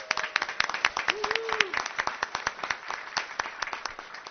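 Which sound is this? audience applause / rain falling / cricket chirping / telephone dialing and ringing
audience applause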